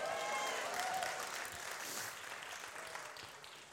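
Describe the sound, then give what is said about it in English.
An audience cheers a man as he comes in, applauding and cheering in a dense, steady wash of clapping with a few whoops riding on top, loud at first and easing off slightly toward the end. “Okay, now you can cheer him.”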